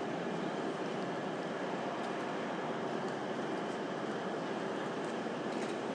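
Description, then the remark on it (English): A steady, dense wash of railway station ambience with a train idling or moving, a continuous rumbling hiss at an even level throughout, with no clear voices, at a station where passengers walk off the train straight out into a large square at the front. “And now people walk off the train straight out into a great big square out the front.”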